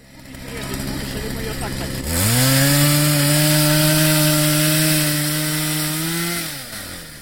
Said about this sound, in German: Baustellenlärm auf dem Baikalsee. Männer in roten Thermoanzügen fräsen Löcher ins Eis.